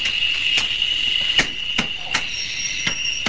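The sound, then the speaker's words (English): A hammer taps a metal canister shut with a letter inside: about five sharp, irregularly spaced, moderately loud blows over a steady high-pitched hum, as crew members in moon suits seal it in an office. “The crew members go into the office and carefully put the letter inside a canister, which they hammer closed.”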